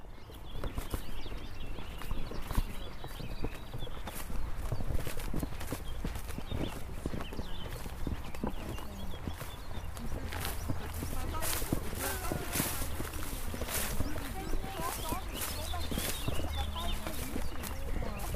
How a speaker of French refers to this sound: Là, on a la chance d'être dehors, on entend plein d'oiseaux. Est-ce que vous voulez nous dire ce qu'on entend? On en a entendu quelques-uns, effectivement. Donc, moi, j'ai entendu le pouillot vélos, par exemple, donc, qui fait tic-tac, tic-tac.